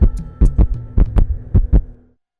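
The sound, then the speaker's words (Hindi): Three heavy lub-dub heartbeats thump at a steady pace over a low electronic hum, loud, then everything cuts to silence; a heartbeat sound effect in the station jingle of radio Gyansthali 89.6 FM in Gonda, India, billed as the heartbeat of Gonda city. “Gyansthali 89.6 FM, Gonda शहर की धड़कन, गोंडा शहर की धड़कन।”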